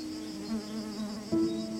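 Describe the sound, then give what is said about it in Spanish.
A bee buzzes with a steady, droning hum that swells louder near the end, as if it moves nearer, as it lands on a person's arm. No voices. “Una abeja aventurera se posa en mi brazo.”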